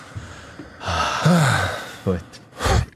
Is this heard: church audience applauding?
no